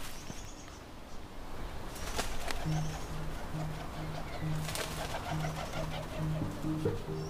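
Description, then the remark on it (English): Two kereru (New Zealand wood pigeons) coo in low, hollow, repeated notes that grow steadier toward the end, in New Zealand. A couple of sudden rustling bursts like wingbeats in foliage, as the birds fly from branch to branch, break through a constant outdoor hiss. “So there are these couple of wood pigeons, kereru, tree hopping.”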